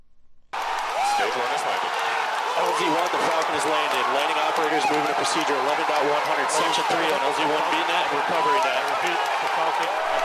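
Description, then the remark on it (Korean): SpaceX staff cheer and shout as the Falcon 9 rocket's first stage lands at Cape Canaveral Air Force Station, Florida, with whoops, rising voices and scattered clapping forming a loud, dense wall of celebration that holds steady for about ten seconds after a brief quiet start. “네, 로켓이 착륙하는 순간 스페이스X 직원들이 환호성을 울리는 소리를 잠시 들으셨는데요.”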